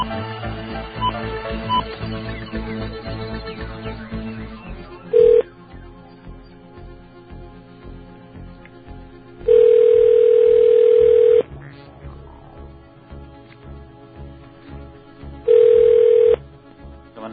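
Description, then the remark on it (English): A telephone is dialed to call a 7-Eleven store, then a buzzy ringing tone repeats in long, loud bursts separated by quiet pauses, three rings in all, over a low steady background hum. “We printed out more than one phone number, fortunately.”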